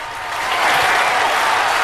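small group applauding

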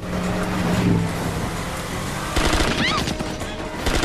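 gunfire

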